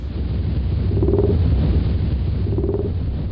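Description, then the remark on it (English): Fin and blue whale calls at around 18 hertz, once attributed to the 'Jezebel monster': a deep continuous rumble with two brief tonal moans repeating about a second and a half apart, with no voices over it. “Nowadays, we know that the Jezebel monster was fin and blue whales. They both vocalize at around 18 hertz.”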